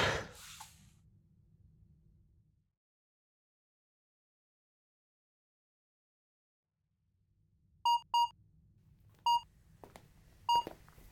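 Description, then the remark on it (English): After a stretch of near silence, four short electronic beeps sound, a quick pair, then two more spaced apart, from a dishwasher control panel over a low hum. “Hey, I heard lots of beeping in here. What's up? Oh, honey, no, that's... that's not the clothes washer, that's the dishwasher.”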